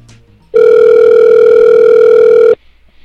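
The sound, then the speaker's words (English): A telephone rings on a call made about a Craigslist ad for a 1995 Ford truck: one loud, steady electronic tone lasting about two seconds, then stopping abruptly, with no voices. “I'm calling about your Craigslist ad.”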